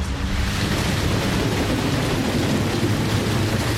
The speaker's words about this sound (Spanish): Estamos aquí en Málaga otra vez y hay mucha lluvia. Son las 10 de la mañana.